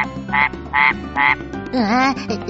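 A frog croaks three times in a steady rhythm, loud, then gives a longer wavering call, with a low sustained tone humming underneath throughout.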